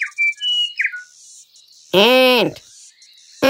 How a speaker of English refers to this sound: The next day, the grasshoppers were singing and dancing in the sun.